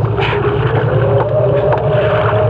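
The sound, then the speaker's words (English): A boat's steady, droning motor hums loudly and continuously, with a rushing wash of water and wind noise over it for the whole stretch; the boat is held steady at sea, a couple of hundred miles from land, under gathering clouds. “I'll go into the boat and get her.”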